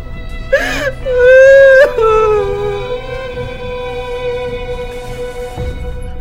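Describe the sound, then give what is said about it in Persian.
A woman cries and laughs at the same time, wailing in a high, wavering cry that breaks sharply at the start, then draws out into one long, sustained sob. Loud, with no talking. “… همزمان میخنده و گریه میکنه.”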